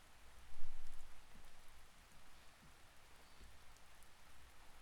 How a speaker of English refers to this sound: Listen to that rain just outside the window.